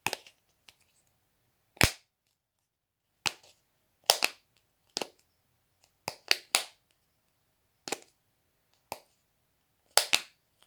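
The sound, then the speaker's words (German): A series of sharp, dry cracks, about a dozen at irregular intervals, as nuts that fell out of bags and foil are cracked open. The snaps stand out crisply against near silence, with no talking. “Einige Nüsse fallen aus den Tüten und Folien und Wilfried beginnt, sie zu knacken.”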